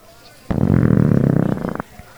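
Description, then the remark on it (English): A long, loud, roaring belch rumbles for over a second with a rough, pulsing texture, alone, then cuts off abruptly. “We'll be discussing and rating these beers with our suds ratings, plus our signature belching sounds, patent pending.”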